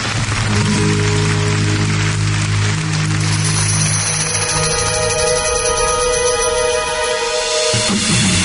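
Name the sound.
rain falling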